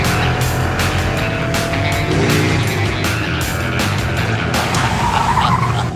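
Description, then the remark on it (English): A very fast pink and white car's engine roars loudly while its tires skid and squeal in repeated bursts, with no voices over the steady, gritty driving noise. “It's like the sweetest, nicest, most adorable pink and white car. But it's horrifying. This thing is so fast, it's unbelievable.”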